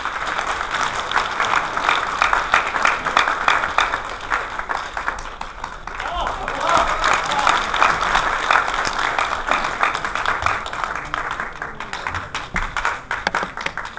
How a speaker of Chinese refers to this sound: 下面就让你最热情的掌声有请王老师。